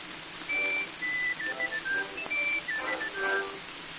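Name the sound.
person whistling a melody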